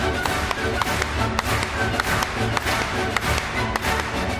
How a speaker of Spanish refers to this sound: Como has hecho ahora, dando las palmas el 1 de enero.